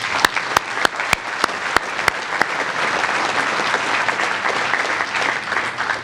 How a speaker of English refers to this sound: I think we really deserve to give him a round of applause.